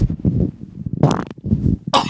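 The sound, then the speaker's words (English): Low, rumbling fart noises sputter in a couple of uneven bursts, followed by a short, breathier blast at the end. “I really got a Please fart, continue.”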